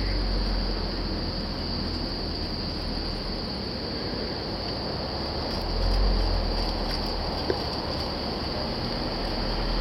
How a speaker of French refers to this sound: Parce que là, on n'entend que les grillons. Mais on n'entend pas les grenouilles comme tout à l'heure.